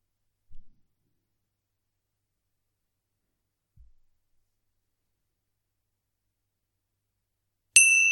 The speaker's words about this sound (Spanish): Al sonido de las campanillas, vamos a cambiar el foco de la atención hacia los sonidos.